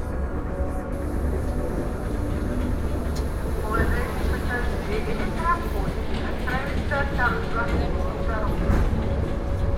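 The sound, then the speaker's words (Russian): Steady, loud rumbling from inside a moving electric commuter train, with a constant low drone and rattle throughout and faint murmuring voices in the carriage around the middle. “В обратной электричке проваливаюсь в сон.”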